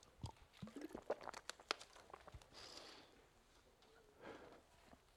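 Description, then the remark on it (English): Crinkling and clicking of a plastic water bottle being handled, followed by soft sipping and swallowing sounds as a speaker takes a sip of water while listeners turn to John chapter 15 in the New Testament; no one talking. “And while you're turning, I'm going to grab a sip of water, excuse me.”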